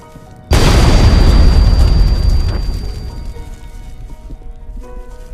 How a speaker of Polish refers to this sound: Trzeba zniszczyć radar. Nie może dostać się w łapy Niemców. Nic z tego nie będzie. Ten sprzęt już nie zadziała. Pozostaje tylko wysadzenie tego wszystkiego w powietrze. Ładunki wybuchowe, zazwyczaj umieszczane, powinno wystarczyć.